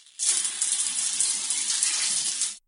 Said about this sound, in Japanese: ああ、ごめん。泡を流そうとしたら君にシャワーかかっちゃった。